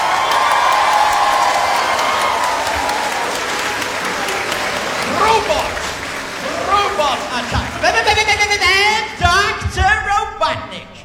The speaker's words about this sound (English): Come on, let's warm him up. Let's give him a soft round of applause, everyone. Come on, let's warm him up.